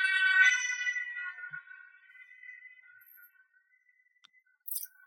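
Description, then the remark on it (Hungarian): An emergency vehicle siren passes: a loud, steady tonal wail that dips slightly in pitch and fades out over a few seconds. A brief click and a short hiss follow. No one speaks. “ugye pontosan azokat az embereket jön egy szirénázó valaki.”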